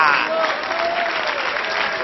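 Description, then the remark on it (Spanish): An audience applauds steadily, a dense wash of many hands clapping at once, sustained and fairly loud throughout with faint voices mixed into the noise. “¡Denle aplauso al Señor!”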